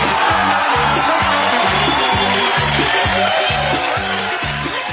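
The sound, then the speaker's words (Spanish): Dense, steady applause fills the whole stretch at an even loudness, with a repeating low thumping beat pulsing underneath roughly twice a second. No one speaks. “Oye, un aplauso.”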